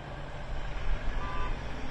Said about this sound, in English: Aid trucks roll into Gaza through the Rafah crossing from Egypt.